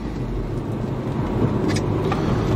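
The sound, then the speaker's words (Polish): A car engine runs at low revs with a steady, rumbling drone as the car pulls away slowly in first gear, with no one talking. “Jedyneczka, powoli sobie ruszamy.”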